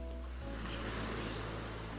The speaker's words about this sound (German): Spüre die weiche Wärme des Sandes und höre auf die Wellen, während die Entspannung den gesamten Oberkörper erfasst.